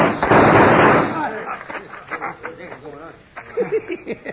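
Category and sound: sound effect, gunshots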